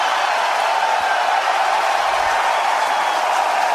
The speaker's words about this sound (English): I think we see Willis coming out. Here comes Willis. And the crowd is going wild.